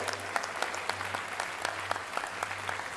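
An audience applauds steadily, a dense wash of many hands clapping with sharp individual claps popping out, over a faint low hum that pulses on and off.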